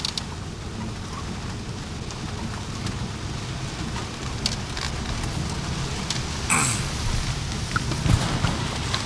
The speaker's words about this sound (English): I've never seen it rain 4 days in a row like this. Just all day.